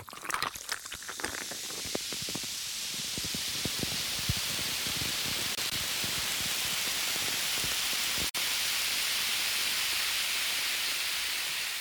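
A fizzy drink crackles and hisses, with a dense burst of popping bubbles at first that settles into a steady, loud carbonated fizz lasting several seconds.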